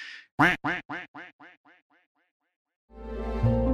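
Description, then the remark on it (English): A duck quacks about eight times in a quick run, each call softer than the last until it fades out, followed by a brief pause and then music coming in. “When the ducks are quacking, feed them.”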